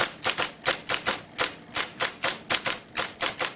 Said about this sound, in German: Einige Autoren bleiben lieber bei Feder und Tinte, andere wiederum können ohne den Klang der Tasten nicht mehr arbeiten und steigen auch nicht auf die elektrische Schreibmaschine um, als diese aufkommt.